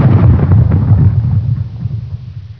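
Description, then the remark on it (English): A loud, deep cannon roar booms out and rolls into a heavy low rumble that slowly fades over a couple of seconds, with no voices present. “Louder than a cannon roars.”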